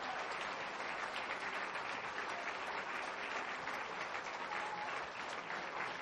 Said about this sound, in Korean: 다시 한번 뜨겁게 박수로 축복해 주시기 바랍니다.